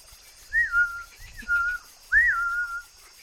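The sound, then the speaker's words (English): A person whistles a short little tune in three brief phrases, each swooping up and then holding a steady note, clear over a soft low rustle, with no talking. “Now, can you add in a little whistle or hum a little tune?”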